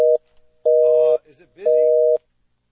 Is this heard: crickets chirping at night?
no